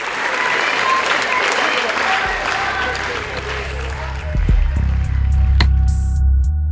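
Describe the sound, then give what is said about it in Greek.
A large audience at the Venice Film Festival applauds steadily and loudly for the film 'The Voice' in September 2025, a dense wash of clapping for over 20 minutes with voices chanting 'Freedom for Palestine' rising through it, growing fuller toward the end as the crowd keeps cheering. “Το όνομα της Χίντερ Τζαμπ θα επανέλθει στην επικαιρότητα το Σεπτέμβριο του 2025, όταν παρουσιάζεται στο Φεστιβάλ Βενετίας η ταινία «Η Φωνή» και το κοινό χειροκροτά για πάνω από 20 λεπτά, φωνάζοντας «Λευτεριά στην Παλαιστίνη».”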